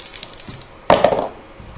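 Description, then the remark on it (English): Percentile dice are rolled in a tabletop game to resolve a rat's critical hit with a piercing weapon: a few soft clicks, then a louder burst of hard, rapid clattering as the dice tumble and rattle across a surface before settling quickly. No one speaks. “Alright, that is a piercing weapon, so roll your percentile.”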